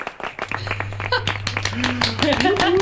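Hands clap over and over in a quick, uneven flurry of sharp slaps, with a steady low hum and some faint tonal sounds underneath.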